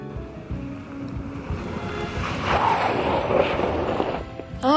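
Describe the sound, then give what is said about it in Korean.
A motorboat engine drones steadily across open water, wrapped in wind and splashing spray, growing a little louder and rougher toward the end. No one speaks. “자동차를 타고 보트를 타고 오토바이를 타고 그와 둘이서 그의 숙모님이 계시다는 곳으로 향했다.”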